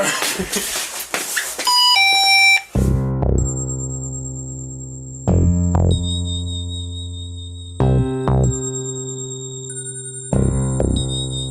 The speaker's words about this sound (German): Auch mehr so eine unspektakuläre Türklingel, ne? Willst du die spektakuläre Version hören? Ja. Spektakuläre Version hören. Da-da!